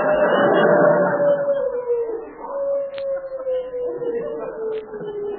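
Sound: dog howling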